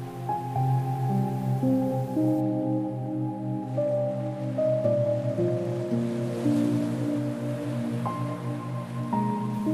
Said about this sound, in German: Hört das ferne Rauschen der Wellen.